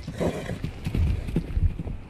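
A horse neighs while hooves clip-clop in a steady, uneven rhythm, the whinny rising over the repeated dull knocks of the hoofbeats.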